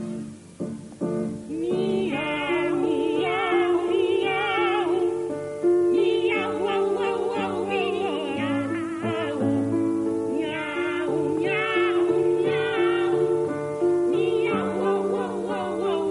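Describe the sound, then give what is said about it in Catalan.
Two female operatic voices, Teresa Berganza and another singer, sing the Duetto Buffo di Due Gatti, a comic duet attributed to Gioachino Rossini in 1825, built entirely on imitated cat meows, trading and overlapping melodic mews over a sustained instrumental accompaniment, loud throughout. “Aquestes són la Teresa Berganza i la … fent de gats interpretant el famós Duetto Buffo di Due Gatti, és a dir, duet humorístic de dos gats, una obra que es va atribuir a Gioachino Rossini l'any 1825”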